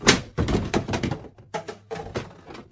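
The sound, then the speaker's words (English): An empty plastic water bottle is tossed into a bin, landing with a loud hollow thunk and then a run of lighter clattering knocks and rattles as it tumbles and settles. “An awful lot of people get their bottled water this way. And when they're done, it goes here.”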